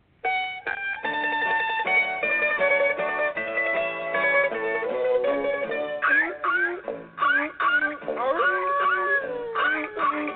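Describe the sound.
A comedy song plays steadily from an Alexa smart speaker, starting with sustained instrumental tones, then breaking into sliding, yowling vocal sounds that mimic howling animals.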